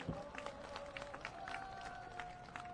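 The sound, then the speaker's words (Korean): Dense, steady clapping from a crowd at a workers' rally, welcoming a movement-dance performance group, with scattered sharper claps and a faint sustained tone humming underneath throughout. “큰 박수로 맞아주십시오.”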